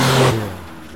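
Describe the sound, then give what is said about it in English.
A car engine revs loudly for a moment with a strong low rumble, then quickly drops away to a quieter idle-like hum. “This is an automobile.”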